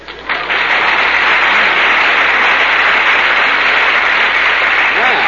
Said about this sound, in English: The end. Applause.